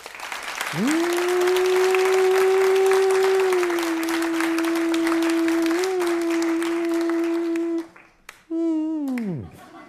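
A crowd applauds steadily for several seconds while a long, loud held note rings over the clapping; then the applause cuts off and a brief wavering tone slides downward.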